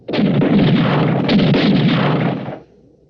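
A loud, sustained volley of rapid gunfire rattles on for about two and a half seconds as dense, overlapping cracks, then stops abruptly, leaving a faint low rumble.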